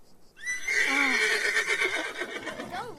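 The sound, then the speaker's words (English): A horse neighs loudly, one long shrill whinny that quavers and trails downward over a couple of seconds, with no voices alongside. “Take horse's reins”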